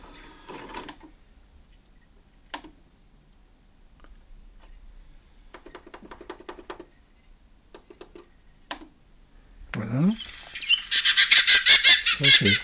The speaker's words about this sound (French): La fauvette Orphée, voilà, occidentale. Alors donc, on va commencer par, il va y avoir quelques cris et le chant français.